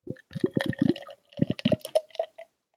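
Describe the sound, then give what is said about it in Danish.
Beer glugs and splashes into a glass in a run of quick, uneven bursts, then gives way to a softer fizzing crackle as the foam settles. “det lyder bare så dejligt, når man sidder her og hører det i din mikrofon, det her skum, der bare knaser og knitrer, når den er sådan.”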